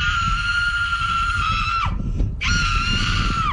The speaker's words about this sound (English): She just came out of nowhere. Let's listen to that scream again.